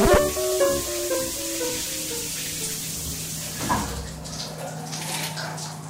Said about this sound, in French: J'ai pris une douche froide.